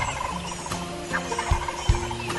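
A tom turkey gobbles in a rapid, rattling burst, answering a hoot owl's call, moderately loud, with a few sharp thumps and outdoor background noise around it. No one speaks.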